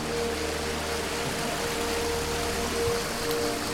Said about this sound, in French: La visite du jardin des fontaines pétrifiantes se fait autour de ces fameuses fontaines pétrifiantes, accompagnée toujours par le bruit de l'eau et l'eau partout qui circule dans les bassins en cascade.